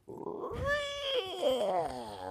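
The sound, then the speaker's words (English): A voice imitates a creaky haunted-house door opening: one drawn-out, wavering nasal whine lasting about two seconds, bending and wobbling in pitch, almost like a yowling cat. “Okay, a scary door on the haunted house opening.”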